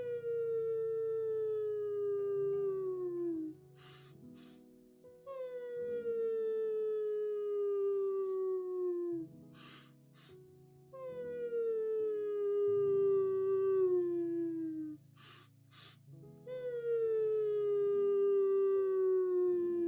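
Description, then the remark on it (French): A person hums on long exhales, four drawn-out tones that each slide gently downward in pitch, imitating a buzzing bee, with quick breaths between them over a low steady drone. “Et maintenant, expire avec le son de l'abeille.”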